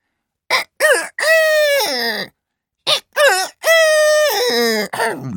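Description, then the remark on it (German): A voice imitates a rooster crowing, giving two loud cock-a-doodle-doo calls, each a few short notes rising into a long drawn-out cry, with a brief pause between them. “Kaum hat dies der Hahn gesehen, fängt er auch schon an zu krähen.”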